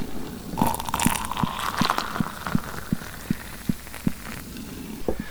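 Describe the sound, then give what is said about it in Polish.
Boiling water pours steadily into a cup over one teaspoon of acorn coffee with ginseng, with a soft, continuous splashing hiss, punctuated by a regular series of short, sharp clicks. No one speaks. “Zalewamy wrzątkiem.”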